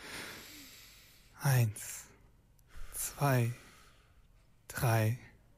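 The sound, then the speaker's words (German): Three deep, audible breaths drawn in during a breathing exercise, each a loud, breathy, slightly voiced rush lasting about half a second, spaced evenly with quiet pauses between. “Erstmal atmen wir für 4 Sekunden tief ein.”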